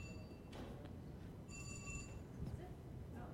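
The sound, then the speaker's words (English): A phone rings with a short burst of bright electronic tones, fairly faint against a low background rumble and murmur of a room. “Is that my phone?”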